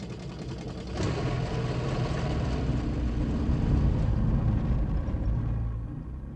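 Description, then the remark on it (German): A car engine hums and rumbles steadily while driving, rising in level after the first second and holding a low, continuous drone before easing slightly at the end. No one speaks. “Na gut. Dann kann ich ja wieder fahren.”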